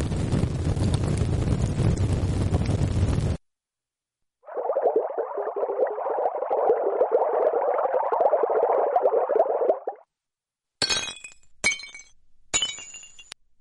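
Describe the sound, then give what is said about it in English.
Three separate computer-generated sounds, none of them real recordings, with silent gaps between them: a dense, crackling roar like fire, then a steady gurgling, bubbling brook, then a few sharp, bright crashes of something breaking. “First one was a fire, right? The second one, a bubbling brook. And the third one is something breaking, right?”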